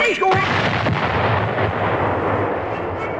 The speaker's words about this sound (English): the gunpowder inside the egg was just about ready to explode. But the sheriff didn't know this.